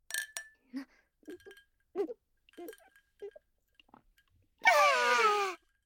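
glasses clinking

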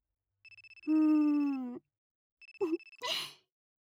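smartphone ringtone ringing

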